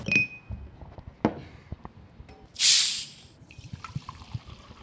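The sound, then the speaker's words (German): Sparkling mineral water poured: scattered drips and clinks, then a brief loud fizzing hiss of carbonation, followed by soft crackling bubbles. No one speaks. “Wasser mit oder ohne? Ja, wenn schon mit.”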